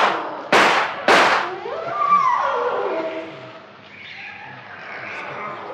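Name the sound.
gunshot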